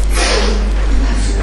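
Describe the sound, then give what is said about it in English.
A single loud sneeze, a sharp breathy burst at the start that quickly fades into a low, steady hiss and hum. “Bless you.”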